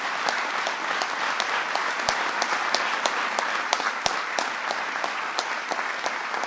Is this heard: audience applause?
yes